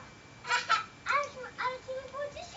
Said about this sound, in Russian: Сейчас слышны голоса детей, вы не обращайте внимания.